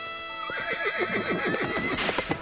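A horse whinnies loudly, a shrill, wavering neigh that shudders rapidly up and down before trailing off, heard alone without any talking.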